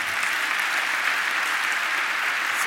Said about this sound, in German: Vielen, vielen Dank für deinen Vortrag und ich glaube, das ist dein Applaus.